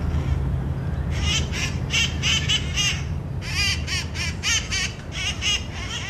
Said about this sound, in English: I take a seat on a step and look up into the trees. The green birds are hopping from branch to branch like little monkeys, drowning out the sounds of the cars below.